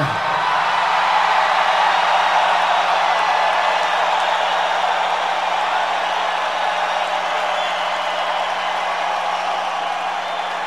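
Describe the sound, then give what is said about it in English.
A loud, sustained roar of a live audience cheering in Winnipeg, dense and steady for the whole stretch, with clapping and scattered whoops blended into the wall of crowd noise. “We have to say that this is the, without a doubt, the loudest crowd.”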